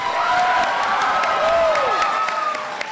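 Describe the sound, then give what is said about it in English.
A crowd of about 400 at a rally in Chicago for the Democratic Senate candidate cheers and applauds steadily at full volume, welcoming President Obama back to Chicago; dense clapping mixed with shouts and a few sliding, high-pitched whistles cutting through the roar for the whole stretch. “An enthusiastic crowd of about 400, many of them familiar faces, welcomed President Obama back to Chicago.”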